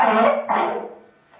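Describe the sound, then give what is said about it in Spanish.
A child who has had an ongoing cough coughs twice in quick succession, fairly loud, the second cough trailing off into a fading breath. No one speaks. “¿Sabes que a pesar de toda la tos y que ha tenido incluso alguna arcada como ha vomitado?”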